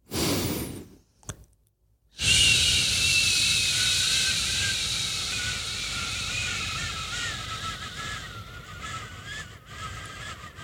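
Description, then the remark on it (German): A short breath in and a pause, then one long, steady, hissing exhalation that lasts over eight seconds, with thin whistling tones running through it and slowly fading. It is a breathing exercise done before a performance to prepare the voice, lengthening the out-breath. No talking. “Also ich atme ganz normal ein und atme dann aus auf.”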